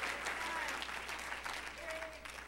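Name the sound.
audience clapping hands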